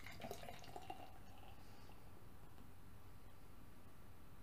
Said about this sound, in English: Oh, it's got a very tall head, about 4 fingers tall. And I haven't poured up a lot of beer exactly. So it's, well, it's at least 4 fingers tall. And it's yellow in color, very yellow and cloudy.